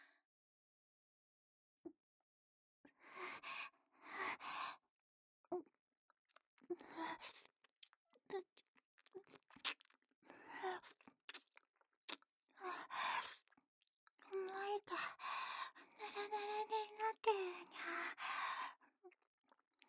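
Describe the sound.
Wet, smacking lapping noises made with a mouth, imitating a cat drinking, repeat in irregular bursts of slurps and clicks over about twenty seconds, moderately loud, with no talking.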